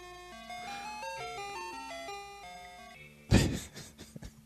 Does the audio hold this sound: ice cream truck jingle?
yes